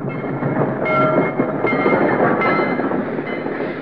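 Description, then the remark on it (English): A heavy freight train grinds along in a dark railway cut, a loud, steady rumble of wheels with thin metallic squeals threading through it, like brakes dragging as it slows, stopped by a flare lit on the tracks. No one speaks. “Because the flare which stopped the train has been planted at a carefully chosen point, the train is strung from one end of the cut to the other”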